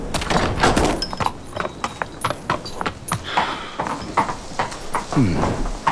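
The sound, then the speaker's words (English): A horse's hooves clip-clop on a hard surface as it is led into the stables during a storm, a steady, irregular series of sharp knocks, loud, with some rustling and faint background noise. “And that's a fine horse.”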